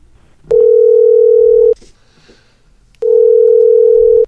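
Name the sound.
phone call ringing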